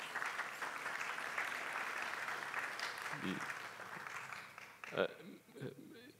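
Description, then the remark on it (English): An audience at Crosspoint Baptist Church applauds the senior pastor's nine years at the church in a steady, dense wash of clapping for about five seconds, then the applause thins out as a voice begins speaking over it. “If you knew it, you may not have clapped.”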